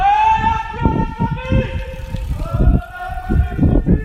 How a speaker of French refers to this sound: Ah bah tiens, il y a justement une voiture de police qui arrive. On va voir ce que ça donne.